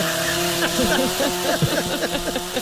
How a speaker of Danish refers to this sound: Jeg har aldrig haft en motorsav tændt ind i studiet samtidig med, at jeg har sendt radio før. Og det behøver vi ikke at gøre igen.